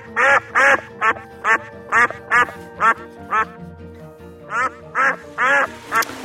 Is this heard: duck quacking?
yes